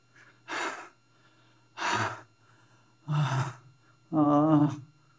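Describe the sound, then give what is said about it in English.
A voice imitates heavy sighing, four loud breathy exhalations spaced about a second apart, the last one longer and partly voiced like a moan, with quiet pauses between them. “The Brajagopis are sighing with heavy breaths.”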